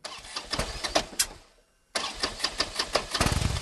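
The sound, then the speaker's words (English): A Harley-Davidson Rocker model motorcycle engine loudly cranks with rapid, pulsing chugs, cuts out briefly, then fires back up and runs with a strong, throbbing rhythm, with no talking, inside a company testing lab in suburban Milwaukee lined with echo-deadening wedges. “A rocker model Harley starts and runs inside a company testing lab in suburban Milwaukee.”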